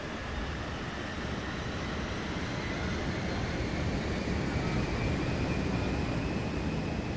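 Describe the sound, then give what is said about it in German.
A passenger airplane roars through its takeoff run, a dense, steady engine rumble with a high whine that slowly climbs in pitch, loud, with no voices. “Und dann hebt dieses Flugzeug ab.”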